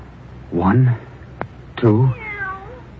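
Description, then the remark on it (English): A cat meows twice, loud, with a sharp click between the calls, then trails off into a softer, drawn-out whining cry. “4 cats with their heads cut off. And another one. Alive.”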